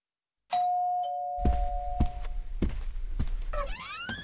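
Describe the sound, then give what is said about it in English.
On a Saturday evening, a two-tone ding-dong doorbell chimes clearly and lingers, then steady footsteps thud across a room, ending with a brief creaking sound like a door opening. “Then the doorbell rings.”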